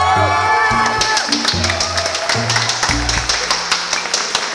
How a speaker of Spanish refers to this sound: Un momento, dejen de aplaudir, que falta nuestra protectora